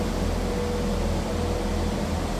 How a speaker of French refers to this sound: D'ailleurs, on est interrompu par un petit camion fort sympathique.